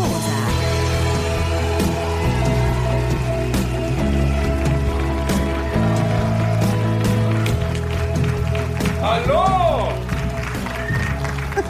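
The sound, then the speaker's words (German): An audience at an open-air weekend event at Seaside Beach in Essen claps in a dense, steady patter that fills the whole stretch, with a low hum underneath and a voice calling out a greeting near the end. “Ihr habt jetzt schon aufgehört zu klatschen.”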